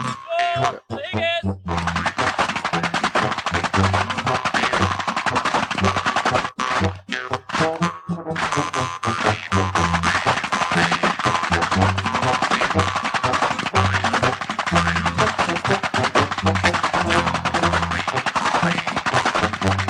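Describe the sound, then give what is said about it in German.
Loud, rapid whip cracks snap in a steady coordinated rhythm, sharp bursts repeating almost continuously over a dense background, with a brief pause partway through before the cracking resumes. “Das Knollen sind dann die Peitschen.”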